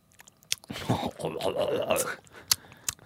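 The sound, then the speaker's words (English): Wet mouth noises of someone sucking on a Fantail chewy caramel candy: soft slurping and smacking with a few sharp clicks, with no talking. “I don't want to chew. I think that would be unpleasant for the listener, but I will suck.”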